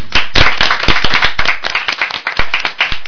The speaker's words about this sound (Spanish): Y gracias por tenerte aquí con nosotros. Un aplauso.